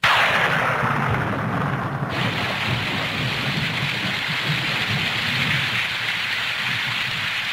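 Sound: rain pouring down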